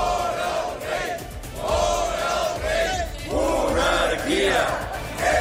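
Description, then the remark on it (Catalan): A large protest crowd in Figueres shouts rhythmic anti-monarchy chants in Catalan, such as 'Fora el rei', in unison against King Felipe VI's visit to the Dalí Museum's 50th anniversary event, loud and sustained, with repeated surges of massed voices and a continuous background roar of the gathering. “Fora el rei o monarquia és corrupció. Són els crits que s'han sentit aquest dimarts a Figueres, on avui anirà i anirà Felip VI per assistir a l'acte del 50è aniversari del Museu Dalí.”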